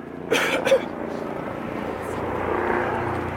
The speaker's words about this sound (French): C'est l'hélico, ça? Ah ouais.